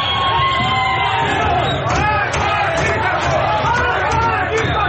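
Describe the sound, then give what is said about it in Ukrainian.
A large protest crowd in Iran shouts and chants anti-government slogans together, such as "death to the dictator", "independence", "freedom" and "mullahs out", in a dense, continuous roar, with overlapping voices rising and falling and no pause throughout. “Серед вигуків можна було почути смерть диктатору, незалежність, свобода, Іранська республіка, мулли, геть.”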